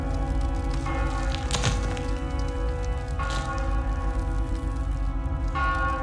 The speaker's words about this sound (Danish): Foran os rejser der sig en mægtig, smuk kirke. Den tårner sig foran os som en kæmpe med røde mursten, mens en ildvarslende kirkeklokke tordner højt mod himlen.